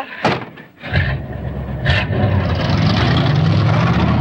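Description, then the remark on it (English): A car speeds off through slush: a few sharp thuds and scrapes, then a loud engine roar swells and holds steady, its low growl climbing as it accelerates. No one speaks. “They speed off, leaving the bag boy sprawled in the slush.”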